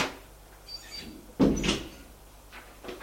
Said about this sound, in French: Elle ouvre une porte, éclaire. Ils entrent.